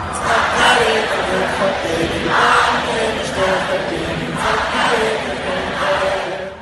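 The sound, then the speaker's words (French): A large crowd at a Lebanese band's concert sings the band's songs together a cappella, without instruments, a dense mass of voices holding steady, swelling phrases at a loud level for several seconds, with a roaring wash of sound behind the melody. “À plusieurs reprises, il laisse le public entonner ses chansons a cappella.”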